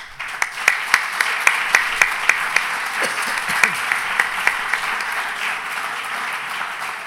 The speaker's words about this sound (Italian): Grazie. Ci sarebbe da riservare un applauso supplementare ancora al priore.